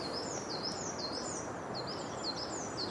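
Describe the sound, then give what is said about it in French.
A crested tit sings a rapid, high-pitched trill while flying overhead: quick bursts of thin, bouncing notes repeating over steady background hiss, with no voices. “Mésanges huppés qui chantent un petit peu comme une bille qui rebondirait vite sur du carrelage.”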